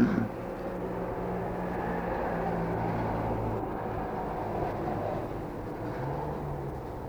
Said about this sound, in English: Now, there's a lot of cars going up and down the road, so I think you better just say it again.